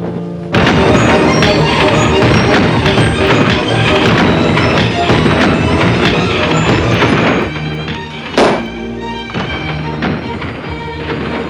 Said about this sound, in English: Later, fireworks burst above the Tivoli Gardens.